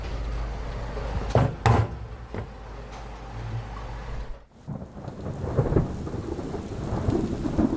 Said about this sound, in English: Storms rumbling in off the horizon. I think this has been said before on this podcast, but it can't be said enough times. But that sound of storms coming in while listening to AM radio.